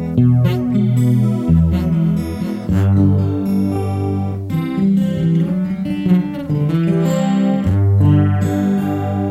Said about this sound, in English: Now I tend to use a very subtle, it's flanging, but I'll dial it down a little bit, so it's just a slight cancel. You can hear it, it can get pretty radical.